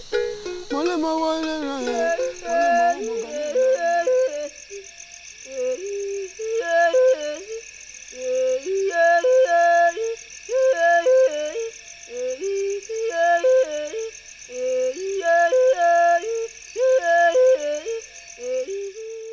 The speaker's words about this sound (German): So hört sich also der Gesang des afrikanischen Regenwaldes an. Die UNESCO hat diese Musik der Bayaka zum Weltkulturerbe erklärt.